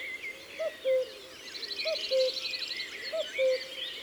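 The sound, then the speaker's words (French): A male cuckoo, which has moved closer, calls its two-note cu-coo three times at a steady pace, clear, seeking to attract a female, while other birds chirp faintly in the background. “Le coucou s'est rapproché. C'est encore un mâle qui cherche à séduire une femelle”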